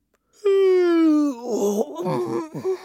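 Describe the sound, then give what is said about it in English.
A voice gives a long, drawn-out yawn that slowly falls in pitch, then trails into a few sleepy, mumbling sounds, fairly loud, as King Jolly goes up to bed and yawns to his teddy. “So he tucked Jane up in her shed and he went off up to bed, where he yawned to his teddy.”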